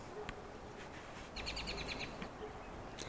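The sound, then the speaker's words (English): Small songbirds sing in May, a quick run of repeated high chirps in the middle with scattered single tweets before and after, set against a soft outdoor background hush. “Well, all those lovely singing little birds and mourning doves and carpenter ants, it's all a part of the season and the place here, too.”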